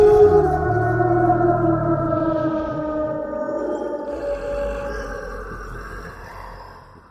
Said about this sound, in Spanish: La criatura desapareció entre las tinieblas, emitiendo un rugido aterrador que se escuchó a kilómetros de distancia.